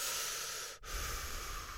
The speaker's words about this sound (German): Beim Hecheln spüre ich deutlich, wie es sich bewegt.